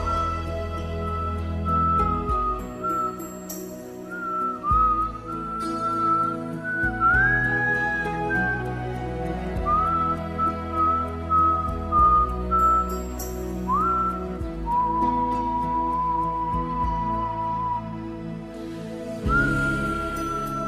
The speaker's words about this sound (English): you whistle so lovely. One day you're going to make them all love your whistling.